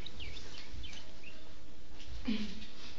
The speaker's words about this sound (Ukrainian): Навколо щебетало птаство, витьохкували солов'ї.